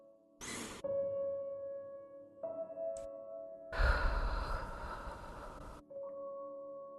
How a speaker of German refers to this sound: Durch die Nase einatmen. Und durch den Mund ausatmen. Das machen wir jetzt noch einmal.